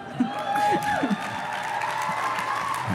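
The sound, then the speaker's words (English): An audience claps steadily for a few seconds, a dense wash of applause with a few brief whoops and voices rising over it. “I appreciate it, but you have to save your hands. You have a lot of clapping to do today.”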